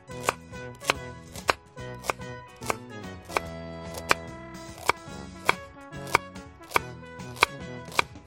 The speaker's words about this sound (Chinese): 那我们的半斤的葱都把它切成10公分的长度，然后把切好的葱段全部都放在这个砂锅的底下。